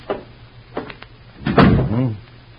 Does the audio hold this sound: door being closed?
yes